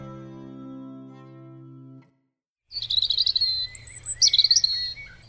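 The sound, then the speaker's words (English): A robin sings a string of thin, high warbling phrases, clear over a steady low background rumble, following a short sustained musical tone and a brief silence. “Robins are up and about earlier than most other songbirds, and they're in almost every city park in the UK, making them ideal for this urban study.”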